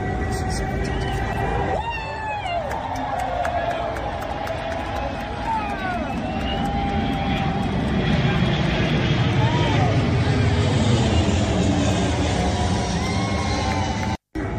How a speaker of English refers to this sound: So again, oh, but aren't they military planes? Yes. So, you know, saluting the national anthem, saluting a flag in a very specific military memorial service during which one of those is taking place, saluting as airplanes fly overhead.